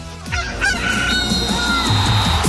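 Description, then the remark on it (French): A rooster crows a single long, loud cock-a-doodle-doo, played as a contest cue on RMC radio, its strained call rising and holding before trailing off, with no one talking. “Dès que vous entendez le coq, vous envoyez euro par SMS au 732-16.”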